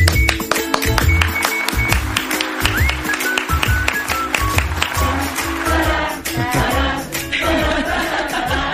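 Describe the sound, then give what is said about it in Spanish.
The staff of the radio show El Faro applaud with dense, steady clapping that carries on without a break, while a few voices sing an improvised chorus loosely over the claps. “Hoy ha sido un día de muchas emociones y quiero arrancar con este aplauso para vosotros.”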